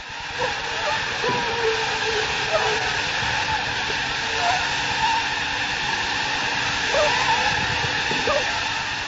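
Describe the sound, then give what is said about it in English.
A dense, continuous high-pitched whine of many malaria-carrying mosquitoes buzzing together in a container at the research laboratory of the Swiss Tropical Institute in Basel, steady and fairly loud for the whole stretch, with layered droning tones and no voices. “The mosquitoes you just heard carry malaria.”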